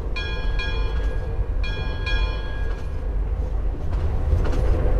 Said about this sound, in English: This is from the train sound story. If you choose, you can have the machine add in additional sounds like train bells.